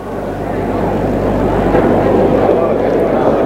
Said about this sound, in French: un bruit de foule vient à lui, comme un vent léger, et entre en lui. Ces mêmes bruits de rue que tout à l'heure. Un bruit de foule.